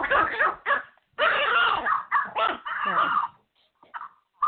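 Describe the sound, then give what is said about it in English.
A tiny 2.5-pound dog barks at a cat in a rapid string of high, yappy bursts, loud, then trails off into a few fainter yips. “is that your little doggies barking because they like what I've told you?”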